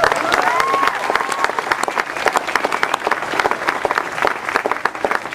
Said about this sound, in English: so that comes first, so we applaud him for that.